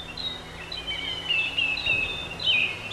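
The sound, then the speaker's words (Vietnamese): Several birds chirp and warble in quick, overlapping bursts of high, bright notes in the morning beside a small creek lined with trees, over a steady low hum of outdoor background noise. “Chim chóc reo hót tưng bừng.”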